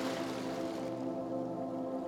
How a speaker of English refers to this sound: For a moment, you close your eyes, enjoy the sun, and listen to the sound of the waves.